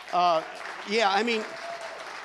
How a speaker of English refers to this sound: Hey, I think we also need to make sure that we give a round of applause again to these folks on staff who do the kind of morning stuff.